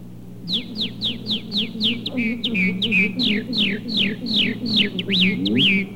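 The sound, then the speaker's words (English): A voice imitates a red-winged blackbird's song: a rapid, steady string of bright, descending whistled chirps, fairly loud, with a low hum beneath and no talking. “Red-winged blackbird.”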